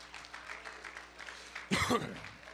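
An audience claps their hands steadily in praise of the Lord during a morning worship service, the applause soft, with a brief loud vocal exclamation rising over it near the end.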